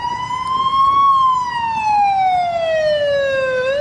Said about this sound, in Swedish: Sirener ljuder i Beirut efter nya israeliska attacker.